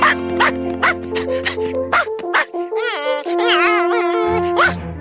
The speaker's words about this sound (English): Asking for food. Ah, my pie is all done. Here's how a dog asks for food.